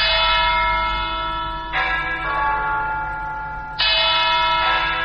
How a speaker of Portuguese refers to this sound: Os sinos da Catedral da Nossa Senhora da Vitória, em Yaoundé, convidam os católicos para a celebração da liturgia que será oficiada pelo arcebispo Jean Mbarga.